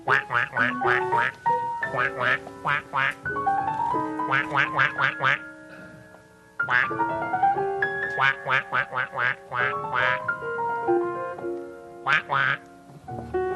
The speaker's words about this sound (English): Do I hear a duck?